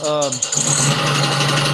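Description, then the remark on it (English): A car engine, played from a video of the engine, runs steadily with a low droning hum and rattly, rushing noise, loud throughout. A brief voice-like tone sounds at the very start. “I was going to go, what in the world is that noise for everybody? I mean, not watching a driving video. It's just the engine.”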